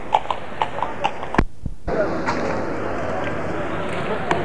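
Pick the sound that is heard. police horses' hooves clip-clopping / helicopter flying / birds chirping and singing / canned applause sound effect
police horses' hooves clip-clopping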